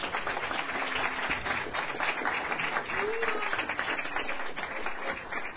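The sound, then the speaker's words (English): A crowd applauds steadily for several seconds, a dense, even wash of many hands clapping at once, sustained without breaks. “Thank you all. Big round of applause.”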